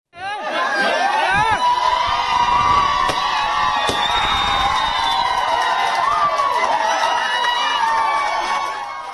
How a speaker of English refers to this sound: Screams of joy there ringing out across the world as India finally decriminalizes homosexuality. Just a month ago, on September 6th, the Supreme Court of India ruled that Section 377 of the Penal Code was unconstitutional.